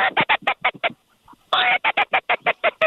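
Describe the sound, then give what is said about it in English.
A duck quacks loudly in two rapid runs of harsh, nasal quacks, the second starting with a longer drawn-out call, separated by a brief quiet pause, heard from a hunting blind on the opening day of teal season. “Yeah, there's a few birds around.”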